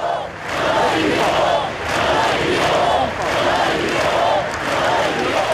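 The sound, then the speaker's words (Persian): Thousands of people gathered on the main streets of Barcelona, alongside Spain's prime minister and king, chant in a steady rhythmic cadence, voices rising and falling in repeated phrases, shouting 'we are not afraid', with dense clapping and cheering underneath, loud and continuous throughout. “هزاران نفر در خیابان‌های اصلی بارسلون گرد هم آمدند و در کنار نخست وزیر و پادشاه اسپانیا یک دقیقه سکوت کردند و سپس با دست زدن فریاد کشیدند که ما نمی ترسیم.”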